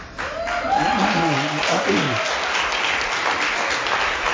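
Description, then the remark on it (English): An audience breaks into steady applause, a dense wash of many hands clapping that holds at an even level for several seconds, with a brief voice-like murmur rising in the first half. “Now, see, you have just complicated my case because you clapped.”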